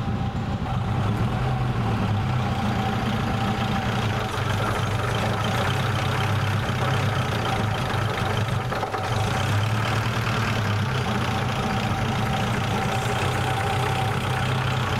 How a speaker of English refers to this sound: That's 400 RPM. How about that? How many engines do you know will tick over at 400 RPM? Incredible.